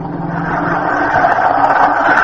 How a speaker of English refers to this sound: Ah, the bus.